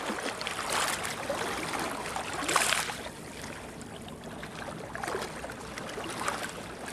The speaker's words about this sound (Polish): Na motorówce się znajdujemy, na ribie. Szybko będzie chyba. Tak, jest to motorówka, popularny rib,